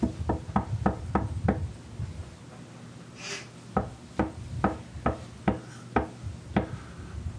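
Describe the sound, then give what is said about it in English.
Two bursts of firm, hollow knocking on a wooden door: a quick series of about six raps, a brief pause, then another steady run of knocks, distinct with no voices. “Would you open the door?”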